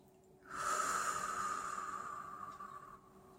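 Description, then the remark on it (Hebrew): A single long, slow deep breath, drawn in through the nose and out through the mouth during a relaxation meditation, lasting a couple of seconds, soft with a gentle airy hiss, then fading into quiet. No one speaks. “לקחת כמה נשימות עמוקות ומרגיעות, לשאוף דרך האף, לנשוף דרך הפה, כן, בדיוק ככה, ועוד נשימה.”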